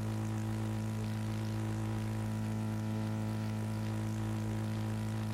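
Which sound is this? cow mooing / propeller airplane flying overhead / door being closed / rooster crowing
propeller airplane flying overhead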